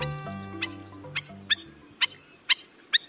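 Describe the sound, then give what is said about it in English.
Sharp, yapping calls of a black-necked stilt, a slender black-and-white shorebird with red legs, repeat about six times at a steady pace, loud, while soft music fades out underneath at the start. “The appropriately named black-necked stilt has the longest legs, relative to its size, of any North American bird.”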